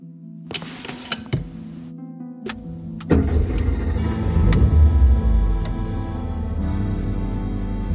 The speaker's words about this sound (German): Nachdenklich hockte Alain Muniel hinter dem Steuer seines mausgrauen Peugeot. Die Straßen waren belebt, viele Autos und Menschen unterwegs.